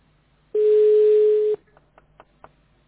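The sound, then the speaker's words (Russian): A telephone tone on an outgoing call: one loud, steady electronic beep held for about a second, with a faint hiss behind it, followed by a few soft clicks and then quiet. “Так, это Дмитрий звонит.”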